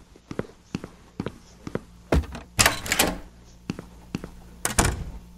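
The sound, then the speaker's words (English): Evenly spaced footsteps in a video game tap along at a walking pace, interrupted midway by a louder, clattering burst of knocks before the steady steps resume. No one speaks. “Door and 8 steps.”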